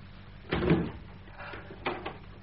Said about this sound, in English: Sister, open that door. No, not the door to the enclosure. The door I came in by. Do as I tell you. Open it wide.